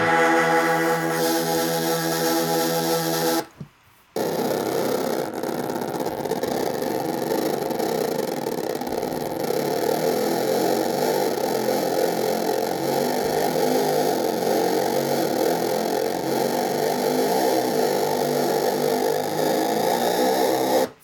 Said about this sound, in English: So, that's your distortion, and that's everything on the Reef ACS.